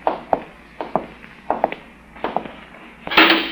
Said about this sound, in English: Jove, I never get over how that great door opens so loudly from the outside and closes without a sound from the inside.